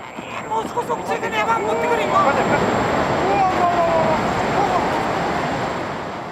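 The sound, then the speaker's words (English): A heavy, continuous roar of crashing, surging tsunami water in Japan in 2011, following a magnitude 9.1 earthquake, builds within the first couple of seconds and stays loud throughout, with faint, indistinct voices rising now and then above the churn. “A magnitude 9.1 earthquake, then a devastating tsunami. The waves hit the Daiichi nuclear power plant in Fukushima.”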